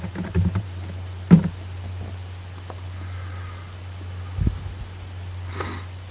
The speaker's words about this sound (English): And we'll SSH to the server and take a look at some files. Do a little typing here.